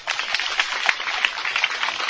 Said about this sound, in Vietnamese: Đúng cho tràng pháo tay đi.